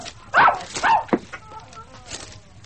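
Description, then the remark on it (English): A dog lets out three quick, sharp barks, then trails off into softer, high-pitched whimpering and whining. “All these beastly curs of mine.”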